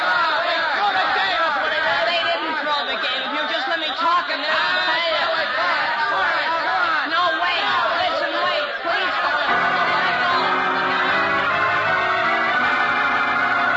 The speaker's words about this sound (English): Shouting wildly, the angry mob of students surges forward against the locked door, placing Jimmy Olsen and others who have gone down in danger of being trampled.